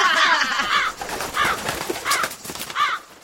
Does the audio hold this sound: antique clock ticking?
no